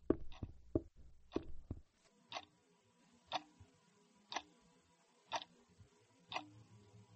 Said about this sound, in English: Nobody but the kitchen clock.